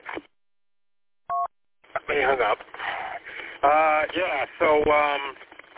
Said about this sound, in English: Now they're calling my other phone. This has got to be important.